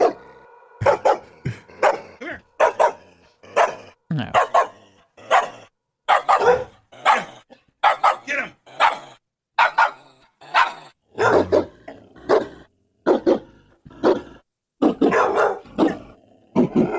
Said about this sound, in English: It's like a dog bark remix.